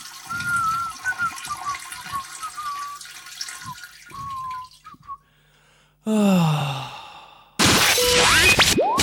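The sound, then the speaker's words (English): A person urinates into a toilet in a bathroom: a steady trickling, splashing stream with faint gurgling tones for about five seconds, then a short pause and two loud, rushing bursts of water. “Look, I'm doing having a pee.”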